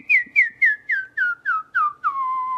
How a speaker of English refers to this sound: You have to be really, really gentle. And just look for that little spot where you can find, you'll find your very first whistle that way